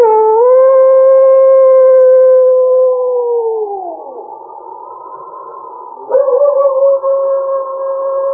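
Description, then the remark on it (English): A long, drawn-out, loud animal howl, holding a steady pitch before sliding downward, then rising again as a second howling voice joins near the end. No one speaks. “It was then that he threw back his head, and a long howl broke the stillness.”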